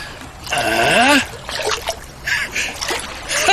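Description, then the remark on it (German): Water splashes and sloshes in several uneven bursts as a wallet is fished out of the water by hand, with a brief vocal sound rising over the first splash. “Ich bin mir sicher, dass wir mit ein bisschen Geduld und einem glücklichen Händchen deinen Geldbeutel aus dem Wasser cachen werden.”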